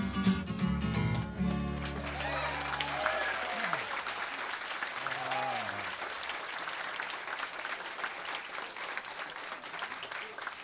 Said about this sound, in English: Well, I'm glad to hear you applauding, because you damn sure ain't going anywhere.